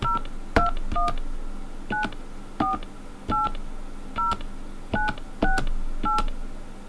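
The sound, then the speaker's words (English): A series of about ten touch-tone keypad beeps as a PIN is entered on a phone for an MCI calling-card call, each a short dual-tone blip with a faint button click, entered at an uneven, steady pace over a low background hum, with no talking. “Press the star key after entering your PIN to add time using your credit card. Please enter your PIN now.”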